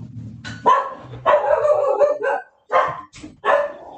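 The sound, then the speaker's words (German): Several dogs bark in quick, overlapping bursts, loud and excited, with a low rumble underneath at the start and short pauses between volleys. “Warte mal ganz kurz, hier sind die Hunde.”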